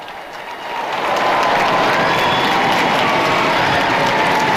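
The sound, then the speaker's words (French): A huge crowd of several tens of thousands of faithful cheers and applauds at St. Peter's Basilica, Vatican, as Pope Leo XIV rides his popemobile, in a dense, continuous roar that swells over the first second and then holds steady and loud, with faint whistles rising above the clapping. “De nombreuses acclamations de plusieurs dizaines de milliers donc de fidèles.”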